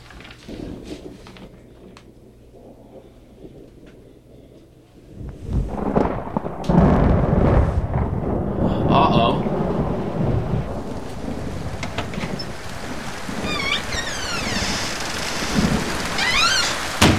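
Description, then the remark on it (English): A thunderstorm with heavy rain: a quieter patter at first, then a deep roll of thunder swells in and a loud, steady downpour keeps hissing, with no voices. “Rain! Take this down! Wait a minute! Rain! And rain!”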